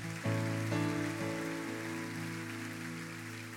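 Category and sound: crowd, audience applauding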